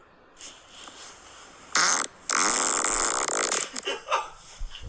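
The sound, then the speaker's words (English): A loud fart: a short blast, a brief pause, then a long rippling, sputtering stretch lasting over a second. Softer scattered noises follow as it trails off. “All right, let's keep going through these farts.”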